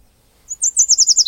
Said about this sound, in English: the Northern Yellow Warbler. The song of that bird, if you listen out for it, it sounds like the bird is saying, sweet, sweet, sweet, a little more sweet.